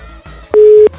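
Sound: telephone line tone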